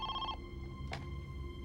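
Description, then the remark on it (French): A telephone rings briefly, one short bright ring that cuts off quickly, followed by a soft brief rustle against a steady low background hum. “Vers 10 heures, soit plus de 2 heures après l'enlèvement de la petite Amy, le téléphone sonna enfin.”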